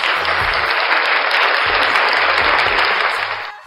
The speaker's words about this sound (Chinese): 现场所有的听众朋友们以及我们的上课的同学们，起立敬礼，送鲜花，掌声有请周洋老师闪亮登场。